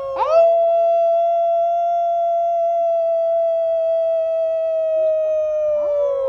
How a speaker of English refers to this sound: The Daily Howl is a socially distanced cry of support for healthcare workers on the front lines stemming the surge of the novel coronavirus pandemic.